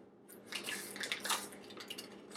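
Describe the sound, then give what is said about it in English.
About a quarter of a teaspoon of Himalayan salt pours and sprinkles into about 1 liter of water, a continuous gritty rattle with small splashy ticks lasting about two seconds, no voices. “That's about 1 liter of water, quarter of a teaspoon of salt.”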